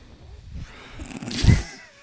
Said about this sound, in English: Well, this guy's a breathing actor. He's getting the ASMR.